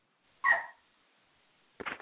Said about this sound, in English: Is that your puppy in the background? What is that? Is that a small child? Listen. Am I going to have to call PETA on you? Are you molesting a dog? That sounded kind of disgusting, actually.